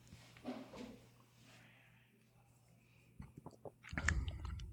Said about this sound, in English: I got to take a sip. This is running long. L'chaim. Cheers.